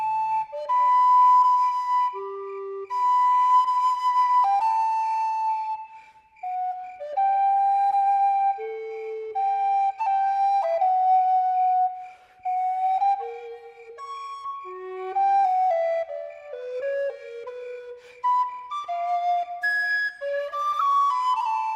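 A solo flute plays a bright, flowing melody of sustained notes and quick descending runs, steady and fairly loud throughout, with no voices.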